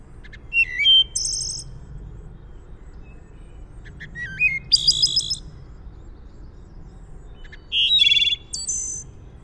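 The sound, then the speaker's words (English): A thrush sings in three separate phrases, each a quick run of clear, fluting notes ending in higher trills, with pauses between, over a soft low background hum. “If you listen to a thrush and hear a thrush, you've not really heard the thrush.”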